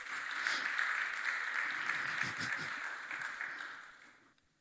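An audience applauds a speaker who has just finished, a dense steady patter of many hands clapping at once, holding even for about four seconds before fading out quickly at the end.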